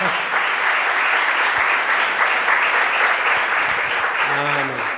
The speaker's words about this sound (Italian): Come si ricevono gli amici? Con un applauso, no? Lo incoraggiamo.